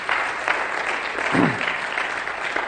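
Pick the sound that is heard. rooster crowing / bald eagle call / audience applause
audience applause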